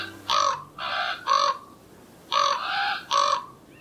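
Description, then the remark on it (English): Two bursts of three harsh, croaking common raven calls, loud, with a short pause between the groups and no other sounds around them. “Ravens play with each other using rocks, sticks, pine cones, even the odd golf ball.”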